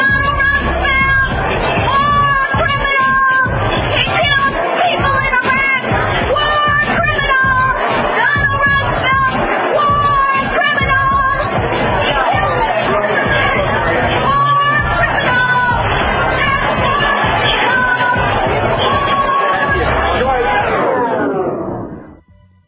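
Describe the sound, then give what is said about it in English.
A crowd of protesters heckles and shouts at Ronald Dumsfeld as a war criminal, overlapping voices yelling loudly and without pause, with occasional whoops rising above the din before it cuts off abruptly. “However, it's always fun to note when Ronald Dumsfeld is greeted and shouted out as the war criminal that he is.”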